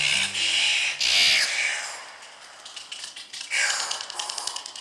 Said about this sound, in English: These are the freakish snarls of the oil bird, which spends its whole life in the dark. These birds live in caves in Trinidad and South America and fly out at night to search for food.